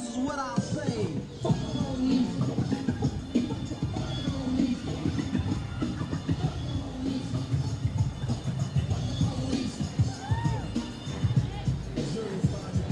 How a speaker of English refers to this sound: We're in the middle of Market Street, in and out of the cars, in and out of Muni. People seem really happy to be out here like this.